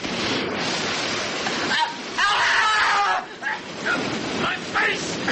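Steam blasts from a locomotive steam valve in the cab, opened full blast by the engine driver instead of being closed, in a loud, continuous roaring hiss that surges brighter and harsher midway, then wavers in short pulses until the end.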